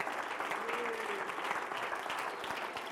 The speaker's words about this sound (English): Let's give the Lord a hand clap together tonight before we enter the Word. In the name of Jesus. Hallelujah.